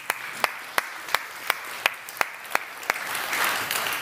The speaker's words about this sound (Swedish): Så jag skulle vilja att alla här inne och gärna ni hemma också ger en applåd till dem som sitter runt omkring er bara för att ni kom hit. Bra jobbat!